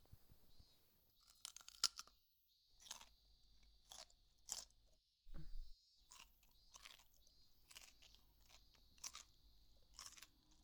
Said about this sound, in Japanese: おいしい。うるさいくらいポリポリですね。